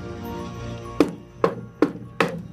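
Four firm knocks on a wooden door, struck in a quick, slightly uneven series over a low steady hum, with no voices.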